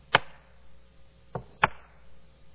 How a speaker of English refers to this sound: And in the faint distance, they hear a shuffling and a clump.